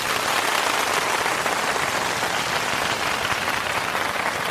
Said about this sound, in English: Today I would like to welcome you all to our wonderful concert hosted by our proud virtual symphony. Let us give them a round of applause for their hard work.